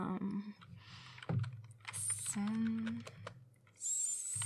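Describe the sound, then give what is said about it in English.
Quick, uneven clicks of typing on a computer keyboard, fairly quiet, with brief tonal murmurs and squeaks drifting underneath. “Just give me the keyboard. I am going to show you something.”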